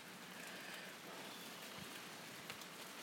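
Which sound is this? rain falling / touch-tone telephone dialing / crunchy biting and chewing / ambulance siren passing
rain falling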